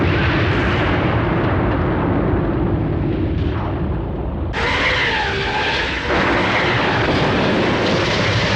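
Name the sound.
airplanes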